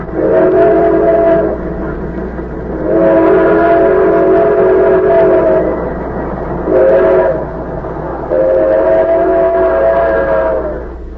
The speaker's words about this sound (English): The train roared through the night, and one by one, the slits of light under compartment doors blinked out as travelers went to their berths.